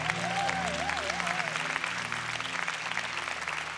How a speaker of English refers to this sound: Come on, everybody. Can we get everybody a good hand clap?